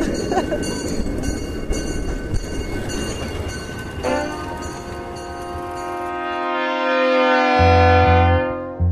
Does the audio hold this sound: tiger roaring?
no